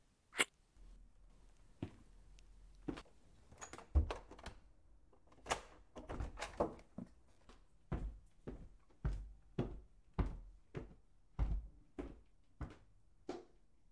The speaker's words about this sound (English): I just need to lock the front door.